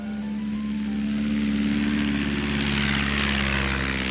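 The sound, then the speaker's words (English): A large plane drones steadily overhead, its deep engine hum loud and continuous with a broad roaring wash that swells slightly toward the end. No voices accompany it. “A big plane.”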